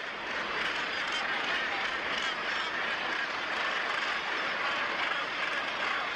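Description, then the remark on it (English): A dense, unbroken din of harsh calls from a large northern gannet colony on a cliff at Cape St. Mary's, about 12,000 pairs, thousands of overlapping voices blending into a steady, loud roar with no single bird standing out. “It looks like a snow-covered cliff, and there's about 12,000 pairs of gannets there.”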